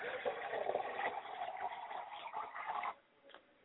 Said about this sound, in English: I pour libations to the east. I pour libations to the west, and I say, Ashe.